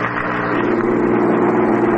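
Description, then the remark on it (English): A car engine, just filled up with Atlantic Imperial gasoline, runs steadily, a loud continuous rumble with a low, even hum and no talking over it. “Ach, der Engine sounds good.”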